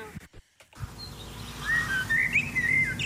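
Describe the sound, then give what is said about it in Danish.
A blackbird sings a series of clear, fluting whistled phrases over a low steady background rumble, starting after a brief pause and continuing at moderate loudness. “men mit allerbedste gæt er, at det må være en solsort. Den lyder solsorter-agtig, den her.”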